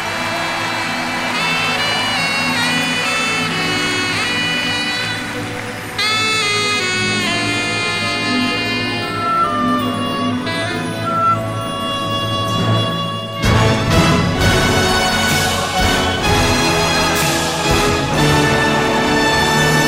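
A Mexican ranchera song intro plays loud, purely instrumental with sustained melodic lines, then swells into a fuller, brighter ensemble section about two-thirds of the way through.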